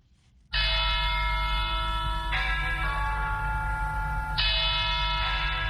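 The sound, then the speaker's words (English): Church bells of Our Lady of Victory's Cathedral in Yaoundé, Cameroon, ring loudly and continuously to call Catholics to mass, their overlapping tones blending into a dense, sustained peal that begins abruptly after a brief hush and shifts in pitch a couple of times. “Church bells ring at Our Lady of Victory's Cathedral in Yaoundé, inviting Catholics to a mass to be said by Metropolitan Archbishop Jean Mbarga.”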